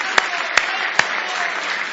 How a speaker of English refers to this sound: Oh, give Him a big hand clap of praise tonight.